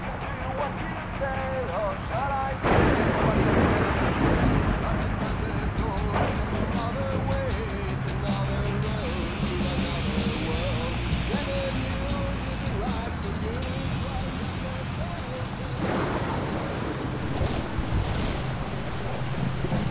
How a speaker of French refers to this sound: face à un orage d'une rare violence qui devrait durer toute la nuit.